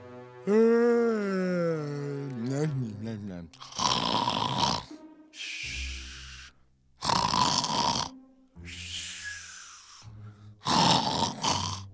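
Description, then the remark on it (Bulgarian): A voice imitates the loud, heavy snoring of a sleeping wolf: a drawn-out groaning yawn, then four rasping snores in a slow, steady rhythm, each inhale followed by a softer breathy exhale, prominent. “Вълкът хъркаше толкова силно, че един ловец, който минаваше наблизо, го чу.”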